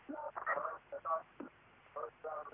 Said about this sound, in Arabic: اسمعيني من الهاتف واخفض التلفاز عشان اعرف اسمعك. انا سامع صوت التلفزيون عندك اصوتيه.